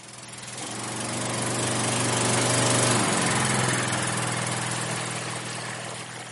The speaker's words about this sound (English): A generator-powered water tanker pumps water into